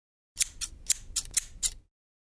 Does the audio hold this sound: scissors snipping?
yes